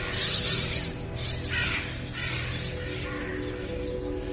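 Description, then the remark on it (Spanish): A flock of black birds, crows, cawing as they circle in the sky, with a few harsh calls rising over a steady, noisy outdoor background. The calls come in irregular bursts. “Cerca de la terraza del último piso del edificio de General Motors, me fijo en una bandada de negros pájaros que dan vueltas en el cielo.”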